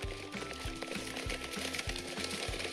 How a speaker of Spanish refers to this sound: Se encontraban en un camino cubierto por árboles y flores de todo tipo, hasta que los pasos de caballos y conversaciones de voces masculinas interrumpieron la tranquilidad.